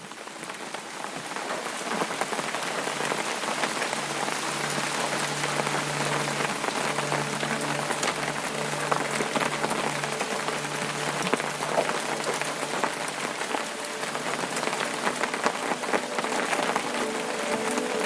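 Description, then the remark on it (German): Rain patters steadily on an umbrella overhead in the Wicklow Mountains, a dense, continuous drumming of countless drops that holds an even, moderate loudness throughout, with no voices. “Spürst, wie der Regen auf deinen Schirm prasselt. Ein leises, rhythmisches Trommeln, das dir fast wie Musik vorkommt.”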